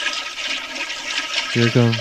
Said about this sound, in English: Here it goes. See, sounds like a perfectly healthy flush.